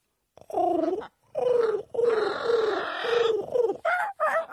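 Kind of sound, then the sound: bird, parrot vocalizing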